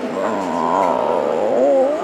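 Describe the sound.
A nursing professor at Nashville's Belmont University imitates a death rattle, gurgling into a microphone in a dark closet for lifelike robots in hospital beds: a continuous, rough, gurgling groan lasting about two seconds, its low pitch wavering and rising slightly toward the end at a steady loudness.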